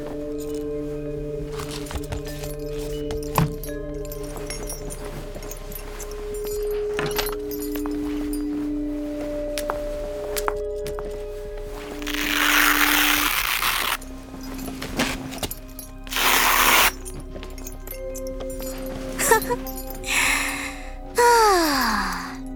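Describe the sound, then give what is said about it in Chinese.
Rummaging clatters and jingles give way to several loud, ripping pulls of adhesive tape, each a sharp tearing burst, set against a steady tonal drone with no one speaking. “既然不想说话，那就都别说话了，我找找胶带。”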